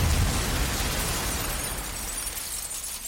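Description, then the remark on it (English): An explosion sound effect: a single heavy explosion with a deep boom at the onset, followed by a crackling, rumbling wash of debris that slowly fades over a few seconds. No voices. “Not too far from Sarah, two black boys with a financial overseer were killed in an explosion.”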